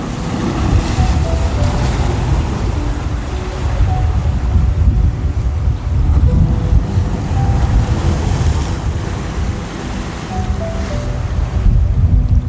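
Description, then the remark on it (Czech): Ocean waves roll and wash continuously, a steady, full surf sound with wind rumbling in the low end and no voices, swelling gently in places over about twelve seconds. “Protože voda je s tebou, rozhodla se pozdravit tě a naladit tě na flow.”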